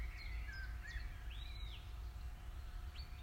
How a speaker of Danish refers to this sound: Det er en af de dage, hvor solen skinner ned igennem trætoppene. Og fuglene registrerer du, da de danner deres helt eget orkester.